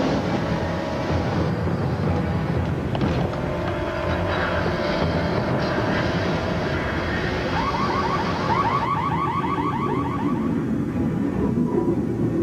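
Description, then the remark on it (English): A submarine's general alarm blares continuously after an explosion in the torpedo compartment, its harsh pulsing tone repeating over a dense rumble of machinery, rising into a rapid warbling pattern partway through. “The general alarm is sounded.”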